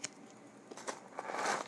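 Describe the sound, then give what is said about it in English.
Crunching of Cracker Jack caramel popcorn, a handful of crisp, crackly bites and chews in quick irregular succession, getting a bit louder toward the end, with no talking. “Cracker Jack, don't talk back. Crackety Yak. Crackety Jack, don't crunch back.”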